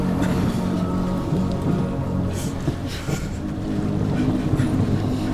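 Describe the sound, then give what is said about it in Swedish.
A huge golden boat with many oars glides across the water toward the listener in sunlight. Its steady wash and wind fill the scene, with a few soft splashes as the oars dip into the dark water. No one speaks. “Tengils båt var enorm och helt i guld. Den hade fler åror än jag kunde räkna.”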